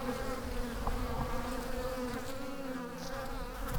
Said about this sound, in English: Oracle State Park isn't just attractive to hikers and birdwatchers. The bees like it here, too. A small swarm is browsing a tree in the garden behind the Canale Ranch House.